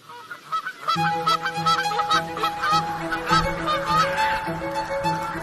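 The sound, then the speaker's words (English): A flock of wild geese honks continuously, many overlapping calls forming a dense, noisy chorus that starts abruptly and stays loud and steady throughout. “So, let's see whether this episode will change how you feel about wild geese.”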